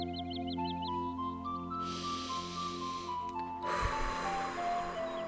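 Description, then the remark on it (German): Three slow, deep breaths drawn in and let out during a meditation, airy, over a soft sustained musical drone with gentle chime-like tones at the start. “Wir atmen dreimal tief ein und aus.”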